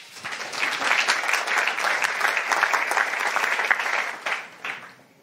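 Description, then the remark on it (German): A crowd applauds steadily for about four seconds as a speaker is introduced for a talk, a dense wash of clapping that thins out into a few scattered claps before fading. “Einen Applaus bitte.”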